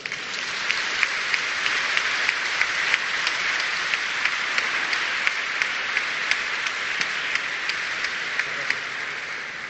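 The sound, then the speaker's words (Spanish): Steady applause from a sizable audience at a Comunidad de Madrid award ceremony fills the whole stretch, dense overlapping claps with a few sharper individual claps popping out, sustained at an even level without any talking. “Aplausos y agradecimientos.”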